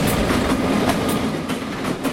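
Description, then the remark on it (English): A train rumbles past on tracks about 100 feet behind a house in North Bend, Oregon, its steady low roar broken by repeated clickety-clack bursts of wheels over rail joints, loud and continuous with no voices. “Our house is right here next to our business, and the train tracks run probably 100 feet, maybe, behind our house. So we hear the train.”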